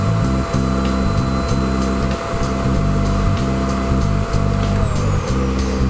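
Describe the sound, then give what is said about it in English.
A vacuum cleaner runs loudly and steadily for the whole stretch at night in a private residence, a dense roaring motor drone with a thin high whine and a low pulsing rumble underneath. No one speaks. “I have to turn on the vacuum cleaner to answer her plea.”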